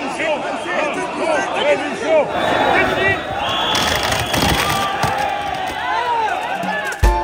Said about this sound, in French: Ce ne sera donc pas un salon de l'agriculture comme les autres. Il a ouvert ses portes à Paris dans une extrême confusion, comme on peut l'entendre dans cette vidéo du Parisien.